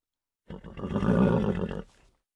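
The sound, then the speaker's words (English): Two zebras calling: one loud, raspy, horse-like whinny that swells and holds for over a second before cutting off, with nothing else around it. “There were 2 zebras.”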